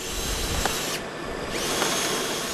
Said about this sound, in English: One of his workers drills into a wooden post to attach new cables.